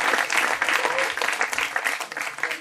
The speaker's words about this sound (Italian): Fatele un applauso, per favore.